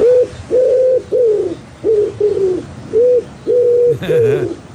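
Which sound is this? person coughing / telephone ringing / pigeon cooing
pigeon cooing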